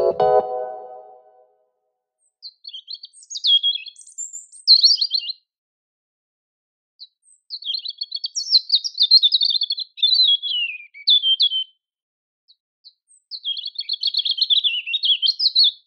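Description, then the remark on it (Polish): European robin song: high, thin, warbling phrases delivered in separate bursts with short pauses between them, clear, after a brief low sound right at the start. The robin is a small bird about the size of a great tit, with a rust-red patch covering its breast and face. “Zbliżony rozmiarami do sikory bogatki rudzik, łatwy do identyfikacji dzięki charakterystycznej, rdzawo-czerwonej plamie obejmującej całą pierś i lico, został ptakiem roku 2021 w Niemczech.”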